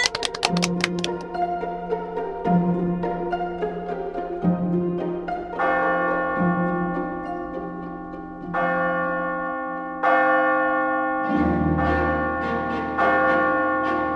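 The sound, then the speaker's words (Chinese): A wall clock strikes six with a series of six resonant, bell-like chimes at a slow, steady pace, each stroke ringing out and lingering into the next, with no talking. “不知不觉，墙上的钟敲了6下。”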